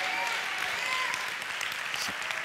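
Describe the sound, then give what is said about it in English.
An audience claps its hands to praise the Lord in a steady, dense burst of applause that stays loud and even throughout, with no voices standing out above it. “If you believe that, give the Lord a hand clap and praise him.”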